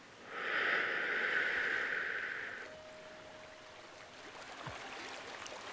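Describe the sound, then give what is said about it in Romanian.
A soft wash of water, like a wave rolling in, swells and holds for a couple of seconds, then fades into a quieter, steady watery background with no voices. “Încă 3 valuri.”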